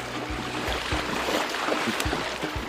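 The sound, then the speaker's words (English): A bear sloshes and splashes through a shallow stream in green woodland near the bank, spinning, plunging its front paws into the water and running through it, with heavy rhythmic plunges every half second or so over a steady watery wash, fairly loud, no voices. “A bear spins in the shallow water near the bank, plunging its front paws into the water.”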